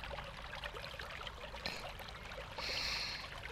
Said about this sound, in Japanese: どうぞしばらくの間、川のせせらぎをお楽しみくださいね。